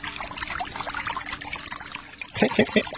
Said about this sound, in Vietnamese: Ồ, tớ đang tắm. Lúc khác gọi nhá. Có nghe tiếng nước chảy ấy không?